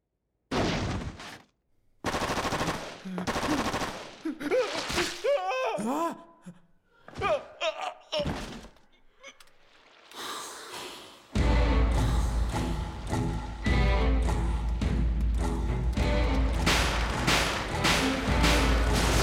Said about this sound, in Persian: شلیک بهشون هیچ اثری نداره. فکر کنم سربازای بریکس باشن.